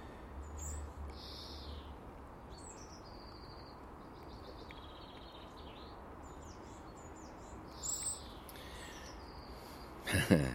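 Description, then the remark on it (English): A magpie at the top of a conifer in a garden sings in scattered bursts of high, scratchy chirps and warbling phrases over a steady background hiss, ending with a sharper, louder flurry of notes. “No, my friend, your song is nothing like as nice as the wee bird that was there before you.”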